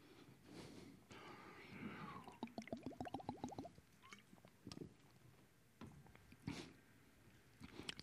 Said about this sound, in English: I'm going to be quiet and sip my water, and I just want you to think for a moment what your answer is to that.